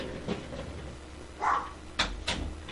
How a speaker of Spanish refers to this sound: Disculpen, tuve que cerrar la puerta.